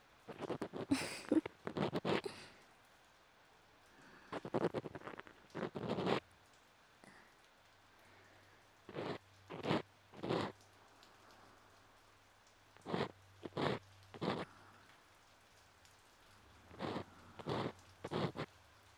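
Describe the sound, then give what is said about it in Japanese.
Soft, steady rain patters in the background while crackly scratching bursts of ear cleaning come in short clusters over it, with a faint low hum underneath. No one speaks. “雨の音を聞きながら耳かきされてる。”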